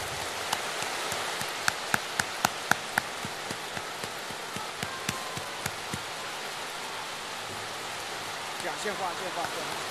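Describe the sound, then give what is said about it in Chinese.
A crowd at a Buddhist gathering applauds steadily for the full ten seconds to welcome Director Lu (卢台长) to give a Dharma talk, a dense, even wash of clapping with scattered sharper individual claps standing out, no clear pauses or build-up. “现在，让我们用最热烈的掌声，恭请尊敬的卢台长为我们慈悲开示。”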